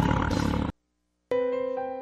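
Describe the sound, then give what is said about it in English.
A loud tiger roar, rough and rumbling, used for Tiger Audio in Houma, Louisiana, lasting under a second and cutting off abruptly; after a short silence comes a sustained, ringing tonal sound. No one speaks. “Tiger Audio in Houma, hear the roar.”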